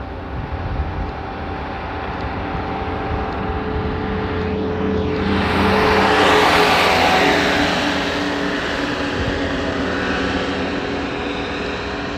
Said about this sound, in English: Lawnmower man. No, it's his little lawnmower speeding by. Or his big lawnmower. The guy who mows the park. Is he gonna go mow the park today? Yes, he is.